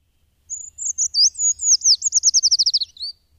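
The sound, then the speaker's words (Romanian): A Eurasian treecreeper calls alone: a thin, very high-pitched phrase of quick notes that speeds into a rapid descending trill, finishing with one short rising note. “Ciocul e specializat pentru a scoate de sub scoarță insecte și păianjeni, hrana preferată a cojoaicei de pădure.”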